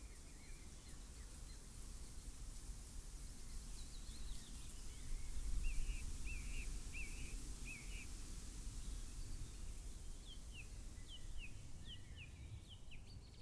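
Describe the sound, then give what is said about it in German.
A steady, broad rustling hiss of wind moving through leaves, swelling slightly midway, with small birds chirping faintly in short bursts above it. “Wow, man hört richtig, wie der Wind durch die Blätter weht.”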